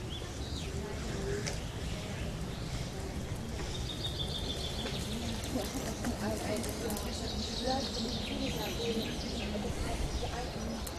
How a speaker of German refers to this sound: Ja, und jetzt geben auch die Ziegen laut. So gehört sich das.